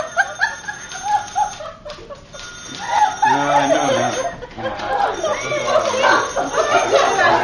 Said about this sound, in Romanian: Da, bine, copii, voi n-au zis că sună telefonul, de ce nu răspundeți?